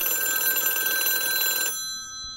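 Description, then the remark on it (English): A classic telephone bell, the machine-generated ring cycle that came into being in the 1920s and 30s, rings in a bright, steady burst with sharp metallic overtones for over a second and a half, then cuts off abruptly, leaving a faint lingering tone. “Essentially, the telephone ring, as it came into being in the 20s and 30s, stayed almost entirely unchanged until approximately the 80s, late 70s, 80s.”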